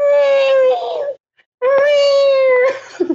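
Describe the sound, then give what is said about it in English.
A voice imitates the screech of birds on an island in Survivor, sounding like a dying cat: two long, loud, wailing cries with a short pause between them. The second cry ends in a strained, broken tail. “Oh my god, so these birds, so if you're sitting at fire at night, like Survivor's a stressful game, suddenly you hear the approaching sound of a dying cat.”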